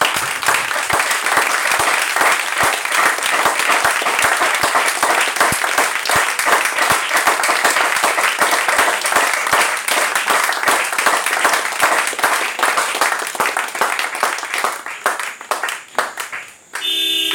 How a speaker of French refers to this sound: Applaudissez d'abord pour l'Esprit.